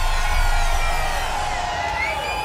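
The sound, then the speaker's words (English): A concert crowd screams and cheers in one loud, sustained roar, with many high-pitched voices overlapping into a dense wall of sound that holds steady throughout. “Nonetheless, everyone fucking scream!”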